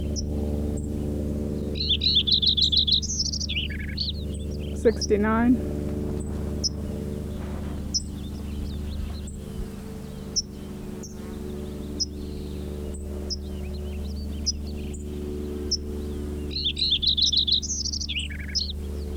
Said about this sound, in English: Lincoln Sparrow number 3 continued.